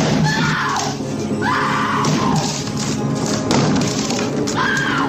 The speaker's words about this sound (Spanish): hacha en mano, intenta derribar la puerta del baño donde se esconden su mujer y su hijo.